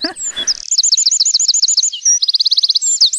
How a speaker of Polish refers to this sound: ale to nie sikora uboga, bo śpiewał dzisiaj ten ptak. Czyli z dużym prawdopodobieństwem można powiedzieć, że to była właśnie czarnogłówka.